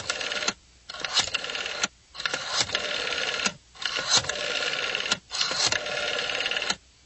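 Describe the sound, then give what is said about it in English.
A telephone being dialed, heard as a run of about five mechanical whirring bursts of varying length separated by brief pauses, fairly loud, with no voices. “pass the phone over. I might as well call it in before they call me.”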